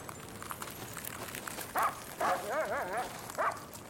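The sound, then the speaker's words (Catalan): Several sled dogs pulling a sled bark in short, sharp bursts, with a wavering yelp in the middle, over a steady background hiss, with no one talking; the dogs reach a huge, treacherous glacier full of crevasses. “Els gossos tiraven bé fins que van arribar a una glacera immensa i traïdora, plena d'esquerdes molt perilloses.”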